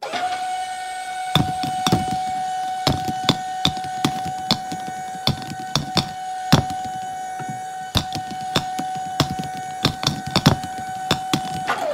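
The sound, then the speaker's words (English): A ball machine hums with a steady, mid-pitched whine while firing balls for listeners to count, in a rapid, uneven series of sharp thumps, around twenty in all, with no talking. “How many balls came out of the ball machine?”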